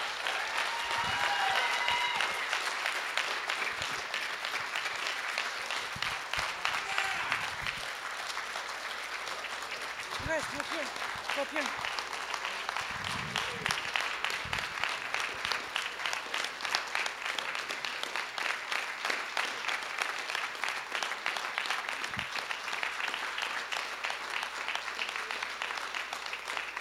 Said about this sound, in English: So let's give another round of applause for these kids.